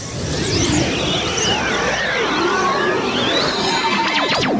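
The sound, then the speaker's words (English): Horses whinny over a steady, dense rumble, their high cries wavering up and down in pitch, ending in a sharp, rising neigh that cuts above the noise. “The horses!”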